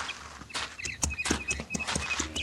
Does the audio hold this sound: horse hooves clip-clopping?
yes